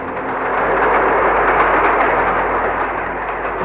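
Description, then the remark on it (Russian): A distant train approaching a railway crossing: its dull, continuous rumble swells slightly in the first half second, then holds at a steady roar. A faint low tonal hum runs underneath, and no one speaks. “Я услышал негромкий гудок и глухой отдаленный гул. Он приближался.”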